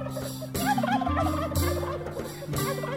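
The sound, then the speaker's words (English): A turkey gobbles in three loud, rattling bursts about a second apart, each a quick warbling call, with a steady low tonal hum running underneath throughout. “Turkeys came from all over wearing their finest turkey feathers.”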